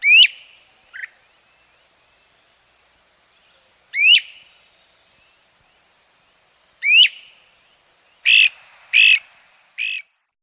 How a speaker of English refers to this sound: One can hear the great crested flycatcher in almost any neighborhood right now, and see this bird, too, with not too much effort. But it really makes its presence known by its distinctive call.